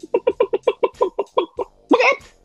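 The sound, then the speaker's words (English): A person imitates a chicken, voicing a quick, steady run of about ten clucks before ending on a louder, drawn-out squawk that rises in pitch. “The first one's a chicken, so.”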